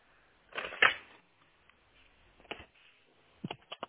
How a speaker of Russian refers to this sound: Озвучьте минутку, я сейчас возьму ручку.